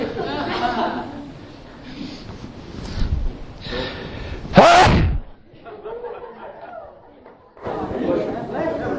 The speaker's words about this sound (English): I got to sneeze.